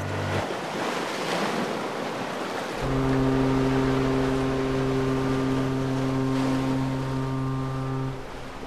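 A deep, loud container ship's horn blasts steadily for about five seconds over the wash of ocean waves and wind, then cuts off, leaving the surf rumbling on.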